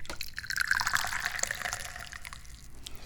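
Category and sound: household object, tea being poured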